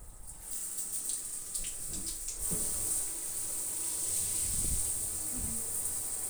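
Water from a bathroom shower runs steadily, a continuous hissing spray that grows fuller after a couple of seconds and holds an even level, with faint low thumps underneath and no voices.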